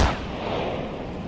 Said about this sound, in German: Hat uns dann der Blitz getroffen. Vorne in die Flugzeugnase. Und wir haben ein sehr helles Licht gesehen. Das war gefühlt einfach 100 Mal stärker als ein Fotoblitz. Das hat sich angehört, als wenn jemand neben uns eine Granate gezündet hat.